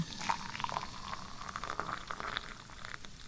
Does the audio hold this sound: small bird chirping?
no